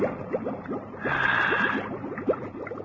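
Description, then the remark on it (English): Wet squelching and gurgling of water welling up through mud in a hole a woman made to suck up water, with a quick series of small drips and bubbles and a brief rushing swell in the middle, fairly quiet. “There's the hole she made to suck up water.”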